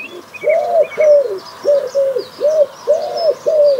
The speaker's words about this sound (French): Tu avais reconnu, je pense, le pigeon ramier, qui est un ami bien connu désormais.